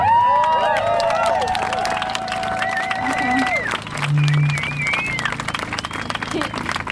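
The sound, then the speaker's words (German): An audience applauds loudly and steadily throughout after a performance, dense clapping mixed with cheering and shrill whistles rising above the crowd noise. “Applaus.”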